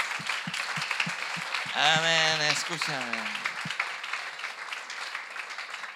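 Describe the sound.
An audience applauds in a steady, dense wash of clapping that lasts the whole clip, while a man's voice briefly speaks over it.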